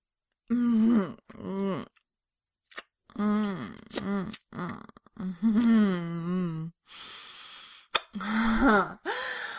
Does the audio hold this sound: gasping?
yes